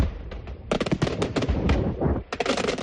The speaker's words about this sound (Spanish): Y atención a este sonido. Un castillo de fuegos artificiales pudo anoche acabar en tragedia en Teulada.